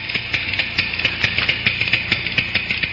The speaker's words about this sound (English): Yes. What with all these electric clocks and digital clocks and electronic clocks, the good old-fashioned ticking that marks off the minutes and hours of the night is rarely heard.